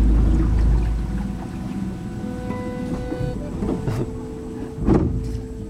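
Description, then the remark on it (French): A boat's engine drones low and steady as it manoeuvres along a narrow waterway lined with palms and lianas, with a faint mechanical whine above and a couple of brief louder surges near the end. No voices. “Là, on a fait 5 minutes au bateau, en gros.”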